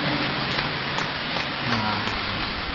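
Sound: audience applause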